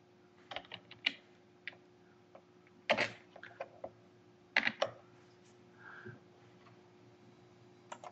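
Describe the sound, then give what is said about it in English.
Irregular clicking of keys on a computer keyboard while typing an email, with short bursts and a few louder clustered strikes, fairly quiet over a low steady hum, no voices. “Doing that mail thing again, typing and trying to talk at the same time, and it just doesn't work.”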